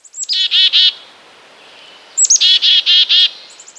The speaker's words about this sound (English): Yesterday on Bird Note, I introduced a common chickadee species, the black-capped chickadee. Its call goes like this.